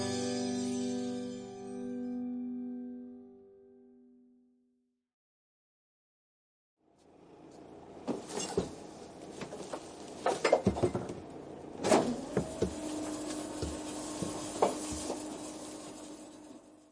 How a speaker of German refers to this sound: Hör mal, was ist denn da draußen los? Das ist die Müllabfuhr. Die leeren alle Mülltonnen in unserer Straße.